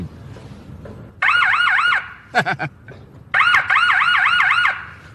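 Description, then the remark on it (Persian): An emergency vehicle siren is sounded briefly in a residential area, in short, loud bursts: two rapid warbling blasts separated by a quick whooping chirp, with no talking. “کوچولو میزنم.”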